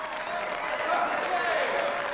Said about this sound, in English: loving clap along as they watch her get a standing ovation. Beaming, Stargirl gathers the folds of her dress and curtsies before making her way off stage.